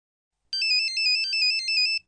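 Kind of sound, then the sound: signal or alarm, mobile phone ringtone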